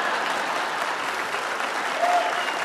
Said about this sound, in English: Well, thank you. Notice you all didn't clap. Thank you for those that clapped.